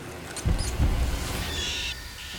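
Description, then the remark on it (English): A small mouse squeaks in short, high chirps amid soft low rustling and crunching as it nibbles grain, followed by a thin, sustained high whine. “As a mouse eats grain, the shadow of a cat leaps past a stone wall.”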